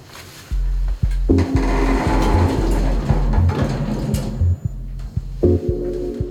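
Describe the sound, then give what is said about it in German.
Elevator doors slide open and shut with a whirring motor and soft clunks, a button is pressed for the 13th floor, then a steady low mechanical hum sets in as the car starts moving up, with periodic faint clicks throughout. “Tür auf, Tür zu, Knopf gedrückt und los geht's.”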